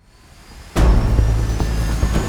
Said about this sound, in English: 3,000 feet and dropping. Something in this locket is controlling the plane.